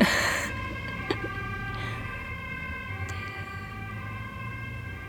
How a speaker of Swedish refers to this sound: Det kan ju verka konstigt också att jag kanske ska invänta det här sirenen som går bakom oss.